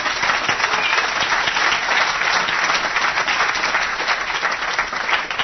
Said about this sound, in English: We're the Real Estate Guys, but if you learned something about metals this week and you enjoyed it, let them know by a round of applause.